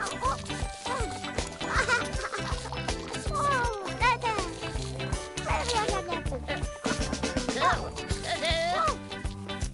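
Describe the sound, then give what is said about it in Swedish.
A small black cat meows several times, its wavering cries rising and falling over a busy, cluttered background of other noises that runs throughout. “Åh nej! Akta den lilla svarta katten”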